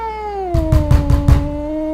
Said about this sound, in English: Oh my gosh, my cat just hit my door and it scared the living shit out of me.